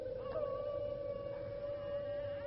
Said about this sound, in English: The wolf!